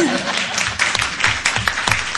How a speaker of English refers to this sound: You can clap, that's fine.